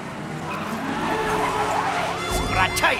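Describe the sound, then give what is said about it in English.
A police car siren wails in quick rising and falling sweeps, steady over a dense, noisy street background for a few seconds. “It's the cops, man! Cops are on strike, stupid! Can't you hear that?”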